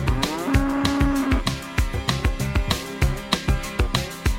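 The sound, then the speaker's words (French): A dairy cow lets out one low, drawn-out moo near the start, heard over a steady, punchy rhythmic beat that continues throughout. “J'ai gagné une vache laitière en jouant au poker.”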